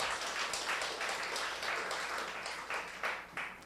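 A church group applauds after a sister's testimony, steady, dense clapping, a continuous crackling wash of many hands with slight surges, sustained throughout without any voices.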